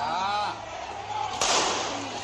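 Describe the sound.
A single sharp gunshot cracks out partway through at a street protest, loud and sudden over a noisy crowd where several voices shout and talk at once.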